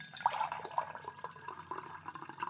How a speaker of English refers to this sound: Oops, I think the Dragon Well tea has steeped long enough. Don't want to make it too strong. Or do we? Just a little joke. Here, let me pour you a cup, little one.